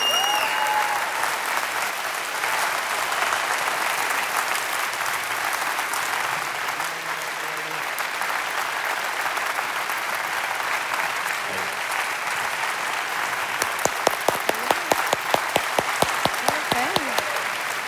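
Sustained audience applause welcoming guests onto a stage, a dense steady wash of clapping that swells, then gives way near the end to a run of sharper, more distinct individual claps.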